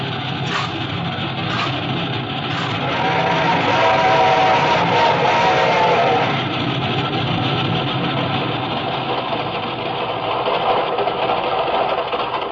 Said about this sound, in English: This train ain't going very fast. He's climbing, honey boy. Wait till we get over the mountain, you'll see her go.